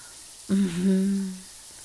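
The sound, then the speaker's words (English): Shower water runs with a steady, soft hiss throughout, and a low, sustained hum-like tone rises over it for about a second midway before fading back into the spray. “Let that water run all over your body.”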